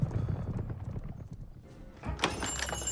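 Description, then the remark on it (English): A pack of horses' hooves clip-clop past at a steady trot, a dense rhythmic clatter, with a brief rustle and a sharper change in the sound near the end. “The horses continue past them.”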